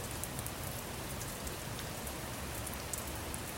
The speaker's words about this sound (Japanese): なおも降りやまぬ雨に打たれながら、うっすらと口元に笑みを浮かべて。